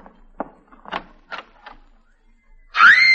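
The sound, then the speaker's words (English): A few scattered knocks and footstep-like thumps, then a sudden, loud, sustained woman's scream that rises in pitch and holds to the end. “stop screaming.”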